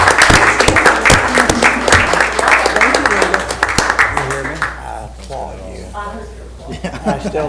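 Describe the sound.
An audience breaks into loud, steady applause, many hands clapping in a dense patter that fades after a few seconds as voices begin talking.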